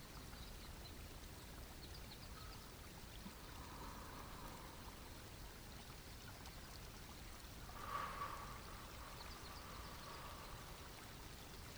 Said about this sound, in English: Rise up again to standing and notice that you hear the sound of water burbling. Look around and find the source of this sound, a spring-fed stream.